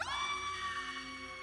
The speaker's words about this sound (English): Another high-pitched scream. What the hell could be making those sounds?